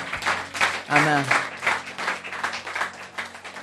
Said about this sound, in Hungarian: Adjunk egy nagy tapsot azoknak, akik meghozták ezt a döntést.